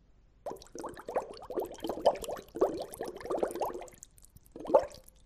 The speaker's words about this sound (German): Nun blase ich durch einen Strohhalm Luft ins Wasser.